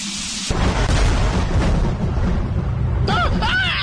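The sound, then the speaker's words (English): A sudden loud thunder crash in an electrical storm breaks in, then rolls on as a heavy, deep rumble for several seconds, with brief warbling, voice-like cries rising over it near the end. “I'm standing in the middle of this electrical storm to prove that our show can stand up to anything.”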